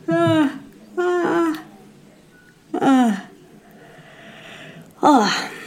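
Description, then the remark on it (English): A person yawns audibly several times in a row, each one a short voiced, sighing groan that rises and then falls in pitch, fairly loud, with brief pauses between. “That actually made me actually yawn.”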